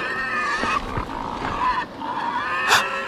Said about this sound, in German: das sind Schweine. Aber sieh mal, wie eingepfercht die sind.